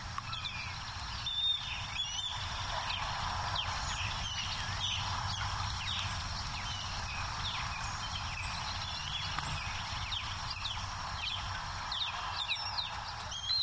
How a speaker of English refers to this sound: Prime Hook, with its vast marshes, forms the backyard. The place is full of a big fish-eating hawk, the osprey. Just listen to them out there. Ospreys whistle a lot. I can see four birds.